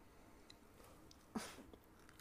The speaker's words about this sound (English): Okay, let's go fourth one. I'll let you finish chewing.